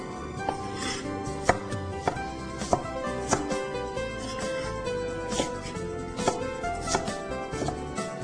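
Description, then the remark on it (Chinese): A knife chops bamboo shoots on a board, cutting them not too small, with about a dozen crisp, evenly spaced strikes at a steady, unhurried pace over a constant low hum. “这个笋子呢不需要太小，好，不需要太小。”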